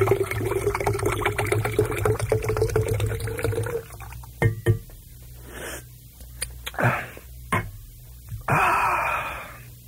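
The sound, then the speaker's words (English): A drink is poured into a glass in a steady stream for a few seconds by a radio host at station WDAI in 1972, then comes a series of short splashy gurgles and clinks, ending with a brief rushing pour. “Pour myself another drink here.”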